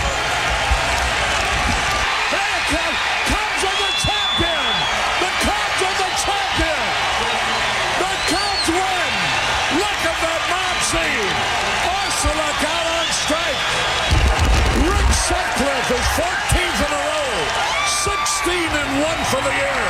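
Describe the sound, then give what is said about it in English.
A recording from 32 years ago of a large ballpark crowd in Pittsburgh as the Cubs clinched, roaring and cheering steadily for twenty seconds, with a dense wash of voices, rising whoops and shouts, and a brief louder surge near the end. “Listen to those crowd.”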